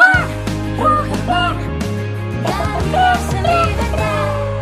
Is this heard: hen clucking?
yes